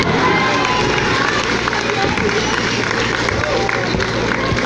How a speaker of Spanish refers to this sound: Un aplauso para el compañero.